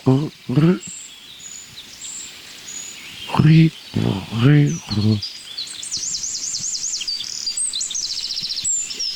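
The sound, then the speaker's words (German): High, thin calls like those of young birds, a faint steady peeping that grows into quick repeated chirps. Brief bursts of voices come and go beneath it early on. “Also ich sag mal, dieses hohe Zieh, das klingt für mich fast wie Jungvögel.”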